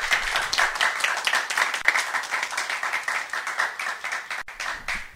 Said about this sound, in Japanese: それでは、ご臨在の主に感謝の拍手をしまいましょう。ハレルヤ。